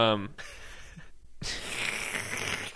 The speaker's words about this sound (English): Just get out slurping. Who slurps whiskey?